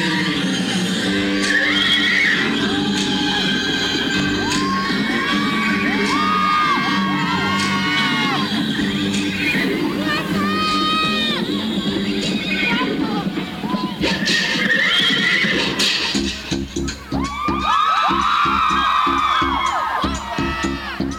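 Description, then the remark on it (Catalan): The rest of a festival troupe, having come down to stand beside the listener, shouts and whoops almost nonstop, many voices overlapping in rising and falling yells over a dense, lively crowd din for about twenty seconds. “Els crits són de la resta de la colla, que ara han baixat a baix i estan al nostre costat.”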